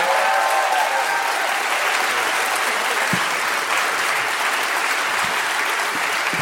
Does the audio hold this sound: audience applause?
yes